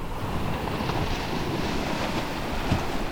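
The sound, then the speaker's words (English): Strong coastal wind on the Outer Banks, North Carolina, roars steadily across the microphone, a dense, continuous rush with surf-like wash underneath and no voices. “Anyone who's been to the Outer Banks knows that it's pretty windy out there. Like, really windy.”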